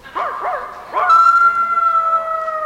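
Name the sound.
wolf howling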